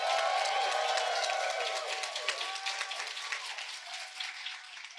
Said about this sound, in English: Please give a huge, huge applause.